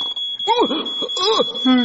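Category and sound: signal or alarm, fire alarm beeping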